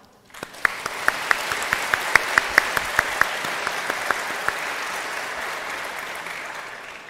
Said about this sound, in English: Can we have a big round of applause for all of us working hard?